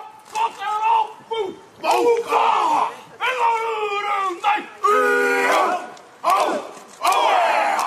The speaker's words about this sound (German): Eine Motorradgang führte heute vor der Al-Nur-Moschee den traditionellen Haka-Tanz der Ureinwohner, der Maori, vor.